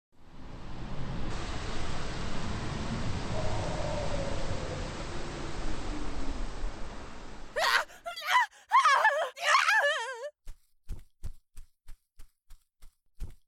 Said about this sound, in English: I think the scream came from this direction.